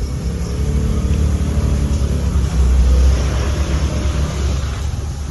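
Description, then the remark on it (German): A woman's decorated motor scooter drives away, its engine droning loudly and steadily, with a brief surge in revs midway, rumbling low throughout. No voices are heard. “Es ist wahrscheinlich gerade Hilde, die da wegfährt.”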